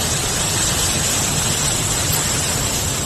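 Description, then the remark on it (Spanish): The Eresma river at the foot of the Sierra de Guadarrama in Spain flows steadily and loudly, a dense continuous roar and hiss of rushing water with no pauses or voices. “Así sonaba el río Eresma a los pies de la Sierra de Guadarrama.”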